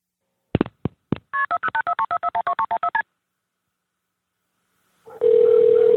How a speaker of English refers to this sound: This is Alec calling 911 from the scene of the crime. So remember, right when you hear those phone tones, it's rolling. Note the silence until the pickup.